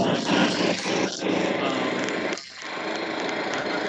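A steady mechanical drone of a lawn mower runs continuously, broad and buzzy, with a brief dip in loudness midway before the engine hum resumes at an even level.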